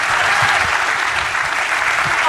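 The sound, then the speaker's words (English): A loud, raucous round of applause from a large crowd as Dom Giordano is called out to the stage: dense steady clapping that fills the whole stretch with no pauses and no clear voices over it. “And I want to hear a loud, raucous round of applause for your next...”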